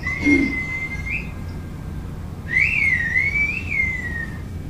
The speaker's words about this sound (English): this is just another bit of that video with the whistle language. Funerals, romanias or pilgrimages, weddings and baptisms. It is not a language created for the intimate. It is for the public, for what must be said out loud and can be heard by all.